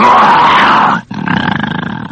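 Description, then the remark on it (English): A person imitates the growl of a bear guarding a vault in a cartoon: a loud, rough, sustained roar, a brief pause, then a second throaty growl with a rapid pulsing rattle, alone. “He says, can you growl like a bear?"”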